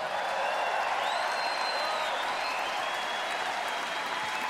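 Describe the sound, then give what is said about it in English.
Steady, dense applause from a concert audience for the musicians one on Hammond organ and another on piano fills the whole stretch, a loud continuous wash of many hands clapping with no pauses, and a few faint cheers or whistles rising above it. “And while y'all clapping, why don't y'all give it up for … over there on piano and that thing he made.”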